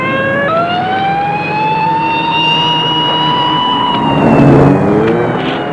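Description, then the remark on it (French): A police car siren wails loudly, its pitch sliding slowly up and then dipping, over the steady rumble of a vehicle engine; the police car is right behind another car. No one speaks. “Et la voiture de police, qui est juste derrière, n'a pas le temps de freiner.”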